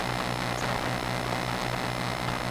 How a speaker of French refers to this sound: Voilà, là, on entend les ordinateurs et les téléphones portables.